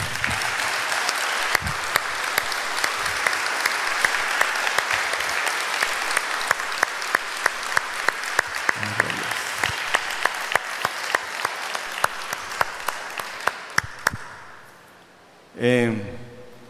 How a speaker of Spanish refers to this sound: Bueno. Hoy Dios va a hablar. Y le damos un aplauso al Espíritu Santo.